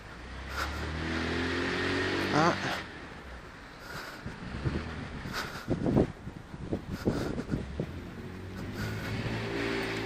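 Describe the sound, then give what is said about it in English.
A white car's engine rumbles, its pitch shifting as it moves past, with steady wind buffeting the microphone and a few short knocks in the middle. “White car right here.”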